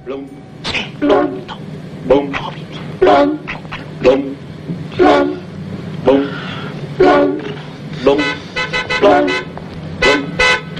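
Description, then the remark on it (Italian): A toy horn is blown again and again by some men in short, nasal honks, a dozen or more blasts in an uneven rhythm, loud, some coming in quick double or triple bursts. “Ma che antifurto, mi faccia il piacere. Questi signori qui stavano suonando loro, un cintrometta.”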